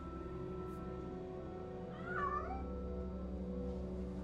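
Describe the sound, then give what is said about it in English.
A tabby cat named Mr. Moo, walking on a kitchen island, gives a single drawn-out meow midway through, rising then falling in pitch, clear over a steady low background hum, with no one speaking. “A tabby cat walks on an island.”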